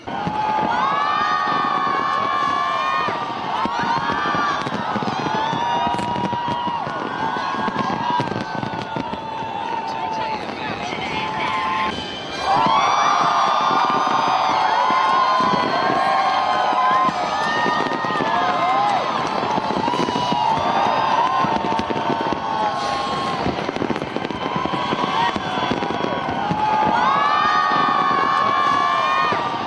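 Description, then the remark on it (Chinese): A huge crowd of 1.2 million spectators around Sydney Harbour cheers and shouts nonstop during the 12-minute New Year fireworks show, a loud, dense roar of many voices with high-pitched whoops rising and falling throughout, briefly dipping before surging again. “短短的12分钟，整个悉尼海港120万的观众沉浸在一片欢乐之中。”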